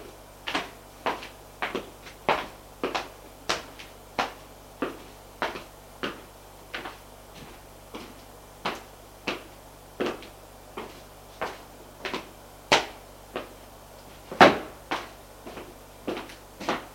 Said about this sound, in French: Frappe à la porte.